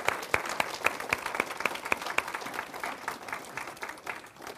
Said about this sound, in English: Let's give them a round of applause, everybody. All right. Good job.